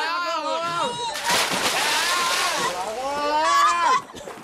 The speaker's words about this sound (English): He's jumped off the boat. Quick, no, get him out. The waves are too strong. He's drowning.